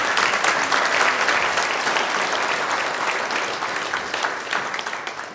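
A crowd applauds steadily, a dense wash of many hands clapping at full volume that holds for several seconds before thinning slightly toward the end, with no voices on top.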